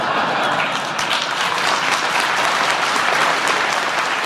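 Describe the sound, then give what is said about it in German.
A whole hall of business leaders gathered in Davos breaks into sustained applause during French President Sarkozy's speech, a dense, steady wash of many hands clapping at an even, loud level throughout. “Nun klatschte der ganze Saal.”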